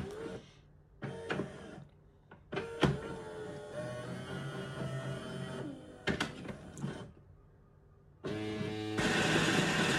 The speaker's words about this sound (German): Weil wie gesagt, ich mache mir jetzt einen Kaffee-Crema, der ist extra stark. Das heißt, er brüht im Prinzip, macht er gleich nochmal einen Mahldurchlauf. Jetzt malt er nochmal Kaffee.